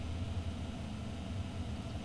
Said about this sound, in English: See, nice and noisy. A lot of hum. That's computer noise. I recorded it with my head right by the computer with a microphone in the other room, so it would be nice and noisy.